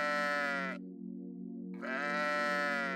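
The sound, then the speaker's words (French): A single long, wavering bleat from a big sheep in the middle of a farmyard courtyard, loud, its tone dipping and muffling briefly in the middle before rising again into a nasal 'baa' for about three seconds. “Quelques minutes après, il aperçut le gros mouton qui bêlait en plein milieu de la cour.”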